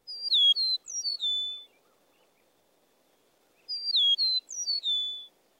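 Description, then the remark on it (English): An eastern meadowlark sings two clear, flute-like phrases of slurred, descending whistles, each about a second and a half long, separated by a few seconds of quiet. Bright, with no voices. “The song of the eastern meadowlark is often written as spring of the year, spring of the year.”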